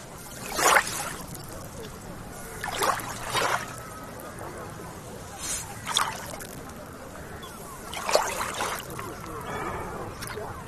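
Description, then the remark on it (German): Gentle, small Baltic Sea waves lap onto the beach at Travemünde on a very windless day, with soft, hissing washes of water arriving every two to three seconds over a low, steady background murmur. “So klingt es, wenn die Ostseewellen so ganz sanft an den Strand von Travemünde schlagen.”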